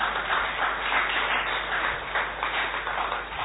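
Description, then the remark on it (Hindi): An audience applauds steadily for a few seconds at a talk on meditation, a dense, even patter of many hands clapping with no voices over it. “हाँ, ताली बजा सकते हैं।”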